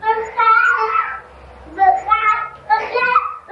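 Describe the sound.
A child's voice imitates crying in drawn-out, wavering wails, three bursts separated by short pauses, fairly loud.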